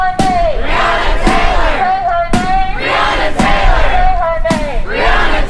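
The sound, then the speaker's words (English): A loud crowd of protesters on a Thursday march west down Central Avenue chants in a steady, repeating rhythm while a drum pounds about once a second, passing the Acropolis restaurant, Cycle Brewing and Steve's Tavern between downtown and the Edge District. The chant swells and dips with each phrase. “A drum pounded as they chanted while passing the Acropolis restaurant, Cycle Brewing, and Steve's Tavern, heading from downtown into the Edge District, then Grand Central.”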